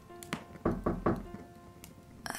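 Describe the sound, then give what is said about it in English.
Three quick, evenly spaced knocks on a door, dull and low-pitched, with no one speaking. “Hey, why did you knock?”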